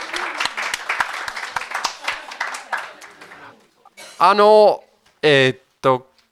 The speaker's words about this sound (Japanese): 挑戦してくれた人たちのために拍手。